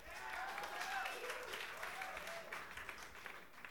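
A dense wash of audience clapping, steady and fairly loud throughout, with a few faint whoops and voices rising above the applause, recorded for broadcast on King Biscuit.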